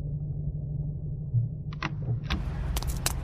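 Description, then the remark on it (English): A car engine idles with a low, steady rumble, then a few short, sharp noises break in near the end as the car comes to a halt at an armory. “Stop the car, Margot.”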